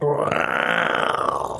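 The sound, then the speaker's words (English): A voice imitates a turtle with a sustained throaty gurgle, a rough, rattling vocal sound held for under two seconds, loud, with no words spoken. “That's the sound of a turtle. Hold on, let me do a better one.”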